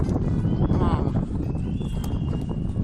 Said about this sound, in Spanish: Lo que escuchas entre el ruido del viento son los silbidos de las personas que se encontraban en el telesilla que intentaban distraer al oso, claro, para intentar llamar su atención y que no fuera detrás del hombre.